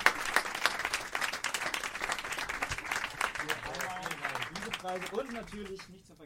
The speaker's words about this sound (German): Großen Applaus!